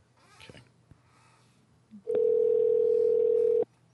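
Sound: skype call dialing tone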